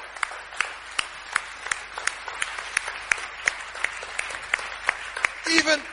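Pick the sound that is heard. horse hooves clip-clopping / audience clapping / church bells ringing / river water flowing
audience clapping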